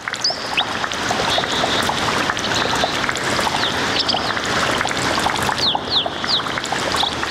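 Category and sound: nature, flowing water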